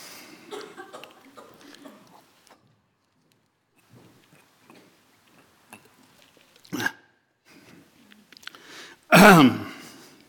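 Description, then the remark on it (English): A speaker giving a talk clears their throat, then a couple of seconds later gives one loud, harsh cough, with quiet shuffling and murmured throat noises before them. “I have to warn Lucy when I cough.”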